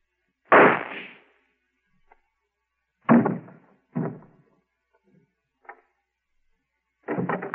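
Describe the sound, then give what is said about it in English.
Several sharp, loud gunshots from a small flat-handled gun strapped to a man's chest under his coat crack out at irregular intervals, each with a short decaying tail, followed by a fainter pop and a final burst at the end, with no voices. “I heard a shot.”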